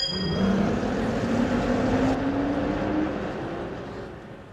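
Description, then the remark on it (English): A bus engine rumbles loudly and revs up steadily as it pulls away, its tone climbing over a few seconds before the noise begins to ease off, with no voices. “Just get on this bus.”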